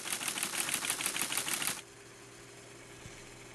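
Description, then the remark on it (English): A 1978-era teletype machine chatters rapidly and steadily while printing and punching paper tape, a dense mechanical clatter of fast even strikes for under two seconds, then stops abruptly, leaving only a faint low hum. “I guess I just like to hear that familiar mechanical hum and remember what technology sounded like back in 1978.”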